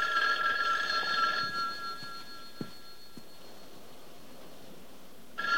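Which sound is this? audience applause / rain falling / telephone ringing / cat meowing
telephone ringing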